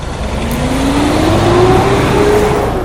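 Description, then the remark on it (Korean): A car engine hums steadily and then gradually rises in pitch as a learner driver slowly presses the accelerator to pull a parked car out, with a constant low rumble and no voices. “겁먹지 말고 일단 저기 파킹한 차부터 빼서 나가보자. 알았어요. 자, 엑셀을 천천히 밟아.”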